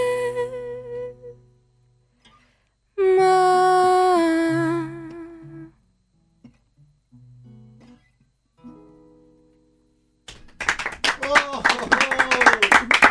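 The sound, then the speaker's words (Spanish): Singing ends on a long held note, then after a short pause a burst of applause with cheering, heard from behind the studio glass, swells in and continues loudly to the end. “¿cómo se escucha la ovación ahí atrás? Tremendo, sí, atrás del vidrio.”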